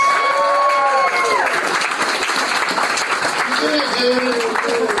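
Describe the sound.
Loud, sustained applause from an audience, a dense wash of clapping that holds steady for the whole stretch, with voices whooping and calling out over it.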